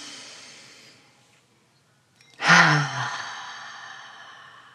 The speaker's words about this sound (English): Hey, Mama, how are you today? Let's take a deep breath together.